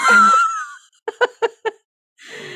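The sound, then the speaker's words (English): Heavy, laboured breathing of a skier on a mountain slope: a long rough exhale, then four quick panting gasps in a row, a short pause, and another breathy rush of air. “Breathing laboriously.”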